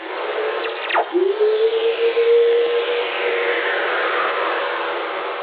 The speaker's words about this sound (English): This is lightning. Well, the sound lightning makes in outer space. When lightning strikes down here, it releases all these radio waves out into the cosmos. They're called Earth Whistlers.